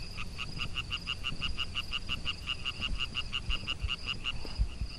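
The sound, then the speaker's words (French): Frogs croak during their breeding season in a rapid, steady pulsing chorus, a dense repeated trill running through the whole stretch, with a low rumble of outdoor background beneath and no voices. “nous allons à la rencontre des amphibiens pendant leur période de reproduction et nous effectuons un comptage”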